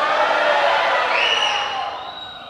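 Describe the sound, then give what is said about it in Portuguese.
A church audience shouts and cheers together in a loud, sustained roar, with a few higher whoops rising above it before the noise gradually tapers off. “Você que está nos visitando, você não sabe o trabalho que deu para eles darem esses gritos.”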